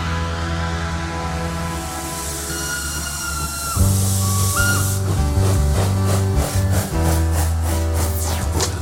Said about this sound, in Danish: Nej, denne gang hopper han på toget, i det øjeblik, det sætter i gang.